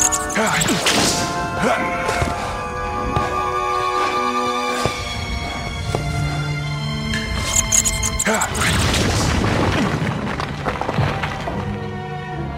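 Sharp whip cracks snap out several times over loud, dramatic orchestral music, mixed with heavy whacks and crashing impacts like a film action scene, from Indiana Jones.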